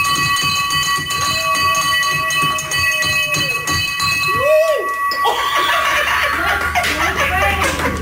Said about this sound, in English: it is tradition in many cancer units to ring a bell when you've received your last treatment and are presumably soon to be, if not already, cancer-free.